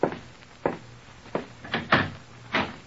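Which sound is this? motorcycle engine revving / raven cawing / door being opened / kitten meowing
door being opened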